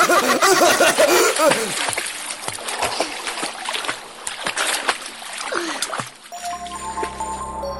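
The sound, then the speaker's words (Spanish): Several loud splashes as bodies plunge into water at an island on a count of three, followed by churning, bubbling water and faint excited voices, then the noise settles into a softer trickle. “¡Uno, dos y tres! ¡Al agua, todos!”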